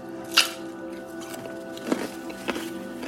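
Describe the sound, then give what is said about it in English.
Chewing on crunchy baby carrots: three crisp, irregularly spaced crunches, moderately soft, over a faint steady background hum with no talking. “I'm eating baby carrots, and man, the sound of chewing these carrots is so loud in my own head.”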